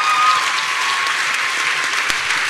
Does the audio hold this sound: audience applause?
yes